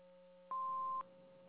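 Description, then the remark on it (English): A single steady electronic beep, about half a second long, sounds clearly over a faint background hum: an answering machine tone after a greeting asking callers to leave a message. “neither … nor … are available to answer the phone right now. Please leave a message after the beep.”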